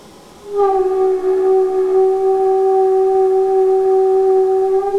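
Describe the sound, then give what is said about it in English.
A premixed flame of a few hundred watts in a duct, with an empty tube placed on top, suddenly breaks into a loud thermoacoustic drone caused by feedback between acoustic waves in the duct and heat release fluctuations at the flame: a steady, horn-like mid-pitched tone with rich overtones after a brief soft hiss. “This noise arises because of feedback between the acoustic waves inside the duct and heat release fluctuations at the flame.”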